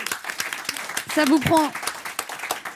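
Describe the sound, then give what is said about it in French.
A small group applauds someone's volunteer work with steady, scattered claps for a few seconds, fairly loud, while a voice briefly speaks over the middle of the clapping. “C'est bien, bravo, ça s'applaudit, ça.”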